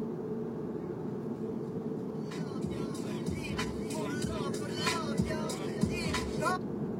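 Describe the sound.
A steady, dense rumble of street traffic fills the whole clip at moderate loudness, with indistinct voices and short bright bursts breaking through over it during the second half.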